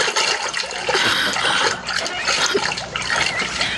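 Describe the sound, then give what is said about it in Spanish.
Steady swishing and splashing of water as a woman, submerged up to her neck, slides through clear jungle river water among the grass at the river's edge, with continuous trickling and churning and no clear pauses. “Sumergida hasta el cuello, se desliza en la cristalina agua protegiéndose entre la hierba que crece en el borde del río.”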